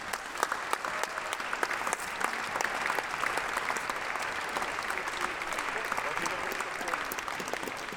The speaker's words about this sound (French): On peut l'applaudir